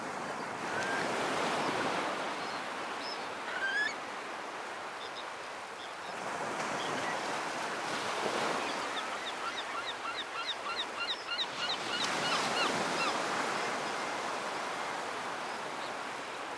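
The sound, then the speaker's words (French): Continuous roar of North Sea surf at high tide, waves swelling and breaking in broad surges, while seabirds call and honk intermittently. No one speaks. “Mon fauteuil s'enfonce dans les vagues. C'est marée haute.”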